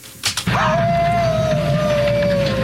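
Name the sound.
wolf howling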